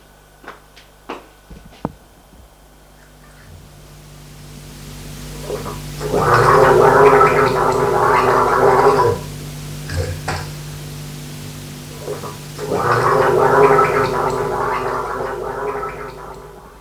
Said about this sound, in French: Se déshabille. Va prendre sa douche.